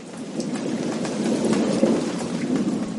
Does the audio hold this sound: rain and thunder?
yes